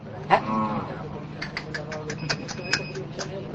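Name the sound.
cows mooing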